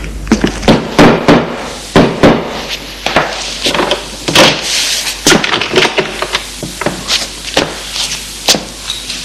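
A woman knocks on a wooden door with loud, sharp knocks, struck repeatedly in an uneven rhythm for several seconds over a faint hiss of background noise, with no one speaking.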